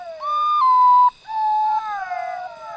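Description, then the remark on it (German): An eerie call of a potoo, recorded at the foot of the Andes in Venezuela: long, mournful, wavering notes that step downward in pitch, sounding loud with a short break between phrases and no voices. “Die unheimlichen Laute des Portu stammen aus einem Arrangement mit Aufnahmen, die Rocher am Fuß der Anden gemacht hat”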